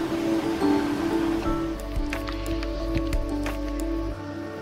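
Floodwater rushes steadily after heavy rain at a homestead in Pennsylvania, a continuous churning roar with a deep low rumble and scattered splashes and drips on top, fading slightly near the end.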